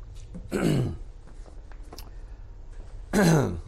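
Two separate harsh, throaty coughs from a speaker giving a Bible lesson, about two and a half seconds apart, with quiet between them and no talking.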